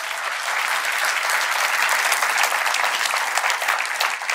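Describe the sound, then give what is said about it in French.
A church audience applauding God during a sermon, a dense, steady wash of many hands clapping that holds at an even, fairly loud level for several seconds without talk over it. “Ceux qui le vivent, est-ce qu'on peut applaudir notre Dieu?”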